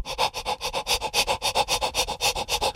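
Quick, steady panting on an open "ah" vowel as a breathing exercise, roughly six breathy pulses per second in an even rhythm, moderately loud with no talking.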